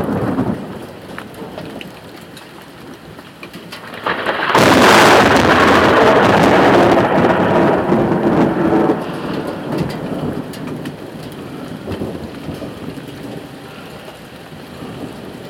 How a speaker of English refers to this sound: We are actually going to get a thunderstorm. We haven't had rain here in weeks and weeks and weeks.